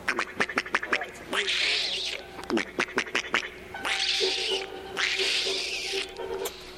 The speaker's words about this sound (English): On down beyond the pasture, there was a lot of oak trees leading down to the pond. And in the oak trees, you could see and hear the gray squirrel.